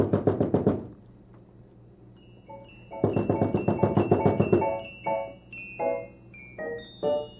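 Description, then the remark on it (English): Two bursts of quick, rapid knocking on a door by Mr. McFeely, fairly loud, separated by a short pause, followed by a few ringing tonal notes. No one speaks. “Would you go and see if it's Mr. McFeely at the door, and then come back and tell us?”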